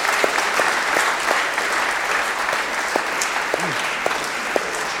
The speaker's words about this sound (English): Amen. Welcome by clapping.